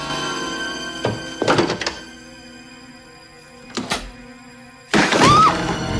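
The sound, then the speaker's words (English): A front door is hurriedly thudded shut with a sharp knock, followed by scraping and clicking metal as it is locked, then a final louder rattling clunk against a faint steady hum. “She hurriedly shuts it and locks it.”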